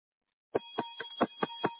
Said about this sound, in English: Do you hear that bell? It's just for you, Street Love listeners, those who received Jesus for the first time and those who are rededicating.